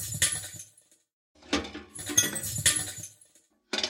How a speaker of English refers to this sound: And then, of course, it's, as I mentioned, that's the reverb from a trash can applied to just another glass impact.